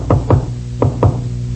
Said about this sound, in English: Suddenly there was a knock on my door.